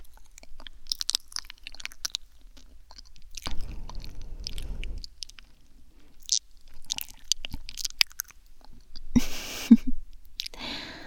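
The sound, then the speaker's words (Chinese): Wet chewing of soft food, pieces of Hami melon, with scattered smacking and squishing mouth sounds and a brief low rumble partway through, no talking. “妈妈呀，是看你嚼得很辛苦，用舌头帮你助推一下，这样应该就没问题了吧？”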